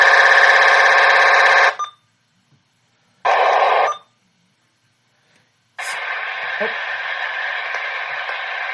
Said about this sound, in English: No, that's just static. Ow, that hurts my ears.